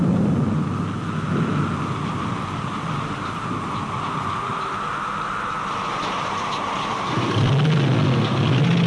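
A thunderstorm: a steady, loud wash of rain-like hiss over a deep rolling rumble that swells again toward the end. No one speaks.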